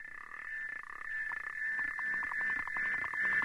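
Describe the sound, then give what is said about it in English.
A rapid series of clicking, ticking pulses from a South African clawed frog's mating call in a pond, steady, with a faint underwater hum and no voices. “Ah, the love song of the South African clawed frog.”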